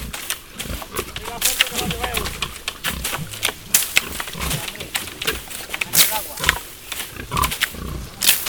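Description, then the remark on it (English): Pigs in a meadow feed, grunting and snorting over a steady stream of crunching and rustling as they chew ripe acorns knocked from oak branches with long sticks, with sharp little cracks scattered throughout. “Soon, they are surrounded by some pigs who will eat them all.”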